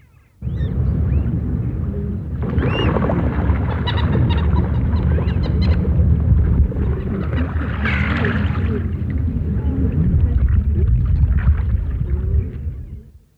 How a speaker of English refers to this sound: Did you hear the moorhen being chased off at the end there? They're just the same if a mallard duck comes along as well.